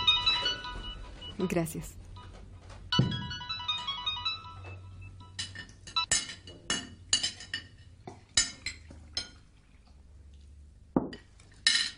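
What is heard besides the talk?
mobile phone ringing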